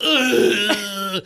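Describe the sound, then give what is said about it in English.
A voice imitates the grunt someone makes when the air is knocked out of them: one strained, throaty vocal sound lasting about a second, loud and rough with a brief catch midway before it cuts off abruptly. “when you get the air knocked out of you. Whatever noise you make when that happens, that's your primal”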